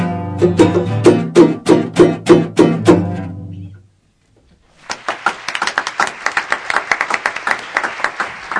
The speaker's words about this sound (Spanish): Era la vencida, tenía que salir el aplauso al mismo tiempo que el nuestro.